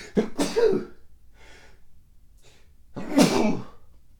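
A person sneezes twice, loud and close, the bursts a few seconds apart with soft, shaky breaths in between; nobody speaks.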